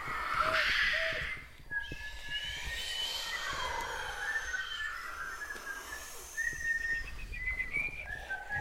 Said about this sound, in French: Il mesurait des arbres en sifflotant une petite chansonnette.